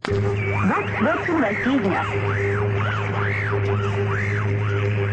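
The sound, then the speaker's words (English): A Voice of America shortwave broadcast, as monitored in Moscow, buried under Russian jamming: steady hum and hiss with rhythmic warbling, swooping tones repeating about once a second, loud and continuous, with a faint voice barely audible beneath. “Knew it because of the expensive and elaborate measures the Russians took to jam those broadcasts, to ring down a curtain of static.”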